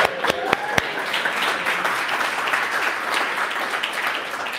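A crowd applauds a Harvard graduate who passed her bar exam, steadily for several seconds, a dense wash of clapping with a few sharp, distinct claps standing out near the start, holding at an even, fairly loud level throughout.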